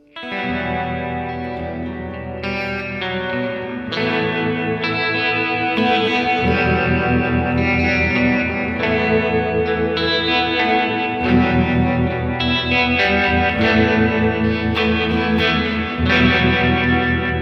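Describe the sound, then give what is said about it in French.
A sustained electric guitar passage drenched in wide reverb, not spring reverb, with a wavering, pulsing harmonic tremolo over ringing chords; steady and fairly loud, played alone with no voices. “Voilà, la reverb, hein. Et on va mettre donc un trémolo harmonique avec ça.”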